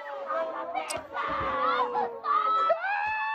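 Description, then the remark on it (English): A crowd gathered outside a brawl shouting and yelling over one another, with harmonic voices rising and falling in rough, excited overlapping cries throughout, fairly loud and continuous. “I love how there's a crowd outside, just like...”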